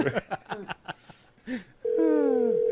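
Telephone line tones like a modem: a quick run of short chirping bursts, then a loud, steady electronic tone joined by a gliding, warbling sweep, continuous until the end.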